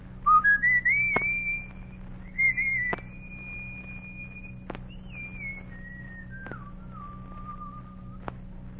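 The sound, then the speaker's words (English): A boy whistles a slow tune alone on Logan Street in Washington, D.C., on a hot summer evening, calling his gang together, sliding up to long held notes and then stepping gradually down, clear, with a few faint taps and a steady low hum underneath. “He was a boy on Logan Street in Washington, D.C., looking for a way to play the tune he was whistling.”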